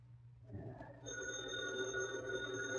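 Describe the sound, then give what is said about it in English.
A telephone bell starts ringing about a second in and keeps up a steady, bright, continuous ring, moderately loud over a low background hum, with no voices. “Holy crow, who's phoning at this hour?”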